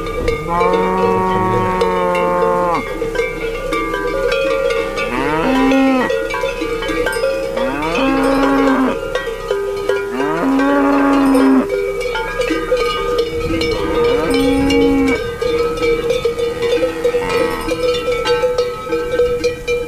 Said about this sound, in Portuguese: As vacas vinham abrigar-se junto à parede da casa, pegada ao curral, e os chocalhos dos animais batiam bastante.